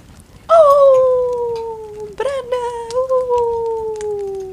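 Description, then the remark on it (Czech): A person imitates the howl of Bran's still-unnamed wolf, loud, in two long sliding calls that start high and slowly fall in pitch, the second following a brief break. “A nejen Caitlin nad ním bdí, ale i jeho vlk. Který ano, ještě nemá jméno. Který ho ty napodobuješ a který ještě nemá jméno.”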